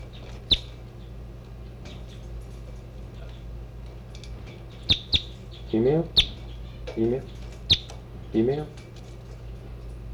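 birds chirping

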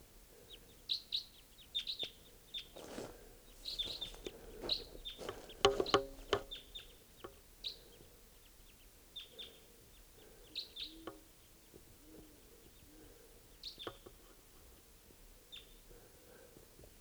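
crossbill flight calls

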